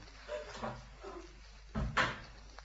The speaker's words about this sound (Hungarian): Becsukom a szobája ajtaját, nehogy felébressz a beszédünk.